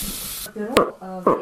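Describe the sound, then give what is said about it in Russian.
An imitated bull moose rutting call, made with a hunter's call instrument to lure a moose, copying how a bull calls a cow during the rut: two short, hoarse, moaning grunts that rise and drop in pitch, each ending in a raspy burst, after a brief hiss of noise. “Это в период гона, когда гон у лося идет размножение, вот он так самку зовет.”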